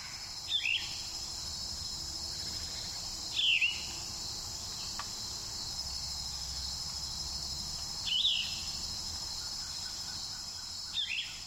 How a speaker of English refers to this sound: As I got up on the mountain in the first fall days, I heard lots of songs. It was a day for jackets, but man, it sounded like summer along Cave Mountain Road. I heard a yellow-throated vireo up there way high in the still leafy canopy.